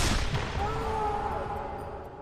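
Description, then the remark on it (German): A single revolver shot, fired at a man and wounding him in the jaw, cracks out sharply at the start, then a long reverberant tail rings and slowly fades. “Ein Schuss meines Revolvers verwundete ihn am Kiefer.”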